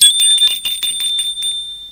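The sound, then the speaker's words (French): A doorbell rings loudly with a rapid, rattling high-pitched trill of quick repeated strikes lasting about a second and a half, then trailing off into a brief ringing tail. No voices. “Un après-midi, l'on sonne à sa porte.”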